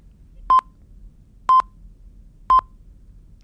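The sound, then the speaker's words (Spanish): A steady series of short, high electronic beeps, one each second, sounding like a timer's time-up warning. They ring out clearly over a quiet background with no one talking. “Así como las mujeres pueden hacer dos cosas a la vez, yo si oigo ese pitido no puedo pensar en cómo me gustaría ser recordado.”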